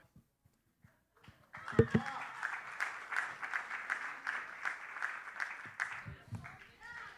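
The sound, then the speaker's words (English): An audience breaks into loud applause for the speaker that carries on for about four seconds with a steady, pulsing rhythm before fading, while a voice briefly sounds at the start and again as it ends. “You guys can clap for me, too.”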